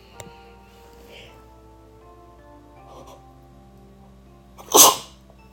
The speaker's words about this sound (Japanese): 失礼しました。ラジオでくしゃみする人おるんかな。すいません。